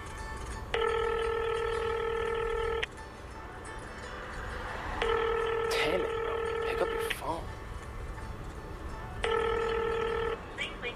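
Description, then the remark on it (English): A telephone rings out three times with long, steady tones separated by pauses, and nobody picks up. A faint background hum runs underneath. “No one ever picks up the phone these days. I'll leave him a message.”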